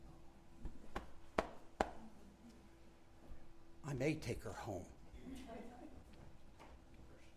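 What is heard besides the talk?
door being pulled shut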